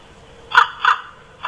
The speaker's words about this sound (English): Okay, so it's a corvid. Yeah. It's either a crow or a raven. Mm-hmm. But I think, I don't think it was... See, that first one sounds more raven-y. I'm going to go raven. It is! Yeah!